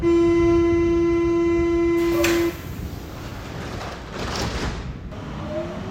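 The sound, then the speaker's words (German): A subway train at the Schlossstraße U-Bahn station: a loud, steady tonal whine cuts off into a burst of hissing air and a rumbling, echoing roar as the train moves. “Ein Lichtblick im U-Bahnhof Schlossstraße.”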